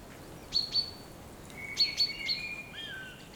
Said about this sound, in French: Et en ce début de journée grisonnant, les oiseaux chantent parmi la forêt.